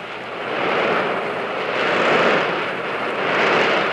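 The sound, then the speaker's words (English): A dense, continuous roar of heavy traffic echoing through the Sumner Tunnel road tunnel in Boston, swelling and easing gently in waves, loud and steady throughout with no voices. “Boston Sumner Tunnel had plenty of traffic.”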